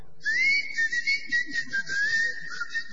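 Someone whistles a short melodic phrase, the clear tone gliding and wavering in pitch for a few seconds over a faint background hiss and low murmur.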